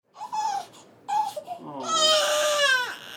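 A newborn baby boy, born in Tijuana on June 11th to Cuban migrant parents seeking asylum, cries in short, breathy wails, pausing briefly before building into a longer, louder, strained cry that tails off at the end.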